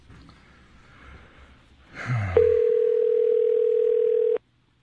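A short breathy snort, then a loud, steady telephone dial tone hums for about two seconds as a call is placed, before cutting off abruptly. No one speaks.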